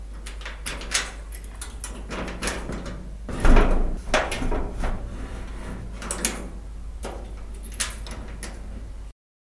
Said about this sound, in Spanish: Mr. Scrooge cierra el negocio dándole muchas vueltas a sus llaves.